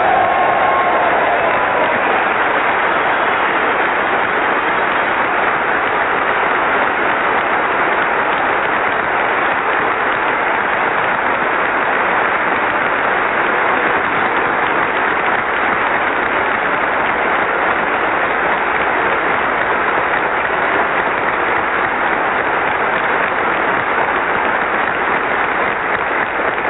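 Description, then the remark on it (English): A large audience at an evening event claps steadily in a dense, sustained round of applause for the honored guests, the men who flew the B-52s in, loud and even throughout with no voices rising above it. “But I can tell you this, after having met each one of our honored guests this evening, after having talked to them, I think that all of us would like to join in a round of applause for the brave men that took those B-52s in and did the job.”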